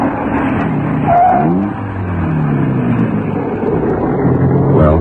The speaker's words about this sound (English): No two makes of a car sound exactly the same. When you get down to it, there's even a slight difference between two cars of the same model and year.